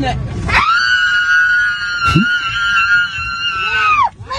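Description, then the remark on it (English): A woman aboard an aircraft lets out a long, loud, sustained scream that holds a steady high pitch for several seconds before breaking off, with brief background noise and a short bump partway through. “Here comes the scream.”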